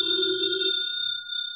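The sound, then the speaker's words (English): A telephone rings with one steady, sustained burst of bright, high tone that holds evenly for over a second before cutting off. No one speaks. “Never ignore a phone call.”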